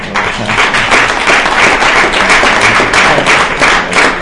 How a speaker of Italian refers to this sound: io vorrei fare un applauso a questo signore, poi vi spiego perché.